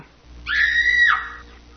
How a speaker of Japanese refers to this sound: というわけで、いつも通り謎の悲鳴から始まるこのコーナー